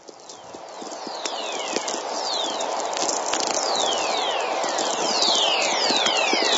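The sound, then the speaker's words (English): Radio static from thunderstorm lightning, electrical energy picked up at the Earth's poles by NASA low-frequency receivers: a steady hiss peppered with sharp crackling clicks, while many high whistling tones repeatedly sweep downward in pitch, growing denser toward the end. “And this electrical energy can be picked up by low-frequency receivers, which NASA has done. And this is what that energy sounds like when it's received at both poles, either one.”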